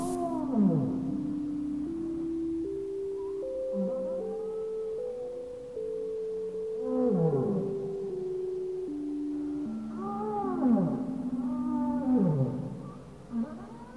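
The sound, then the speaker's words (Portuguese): Whale song with long, swooping moans and cries that rise and fall over a sustained tonal drone, repeating in slow waves against a soft, continuous underwater-like hum. No one speaks. “Deixe que as baleias te levem para a imensidão azul do oceano de bem-aventurança interno.”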